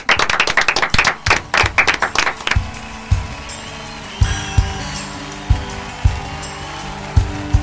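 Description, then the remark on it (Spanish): A short burst of hand clapping from a small group ending a Radio Cultura programme, quick, thinning out after a couple of seconds into scattered claps over a steady background hum. “Bueno, y con un aplauso terminamos el programa, que se acabó.”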